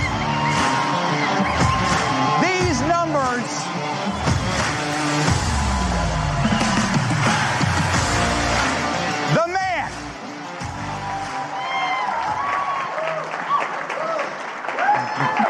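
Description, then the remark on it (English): Loud, sustained applause from a large crowd welcoming retiring Border Patrol Chief Greg Bovino onto the stage, with scattered cheers and whoops rising above the clapping and voices shouting over the din throughout. “I would like to welcome out onto the stage our retiring Border Patrol Chief, Greg Bovino, who's here right now, and who I want to give a massive round of applause for delivering, ladies and gentlemen.”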